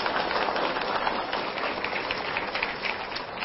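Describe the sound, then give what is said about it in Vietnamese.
Steady, dense clapping from an audience of Buddhist followers at the McGavin hall in Southern California, welcoming back the lecturing monk Thầy Nhật Từ, a continuous crackling wash of many hands that holds an even loudness throughout without pauses or voices. “Xin quý vị một tràng pháo tay để chào đón thầy trở lại.”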